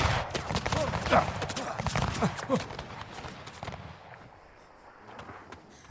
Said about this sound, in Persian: اونا دیوونن. قبل از این که حرفم تموم شه شلیک کرد.